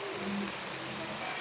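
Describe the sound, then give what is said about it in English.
Steady rushing water from a grist mill's water wheel fills the scene, with a faint, brief squeak from the turning wheel rising above the churning flow. “Well, I'll walk down to the water wheel. You can hear it squeaking away.”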